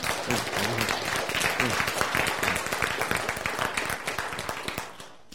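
An audience applauds steadily, many hands clapping in a dense, fast patter at a fairly loud, even level, thinning out and fading in the final half-second.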